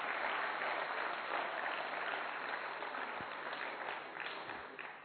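Steady audience applause, a dense wash of many hands clapping at an even loudness for the whole stretch, tapering off slightly near the end with no voices on top.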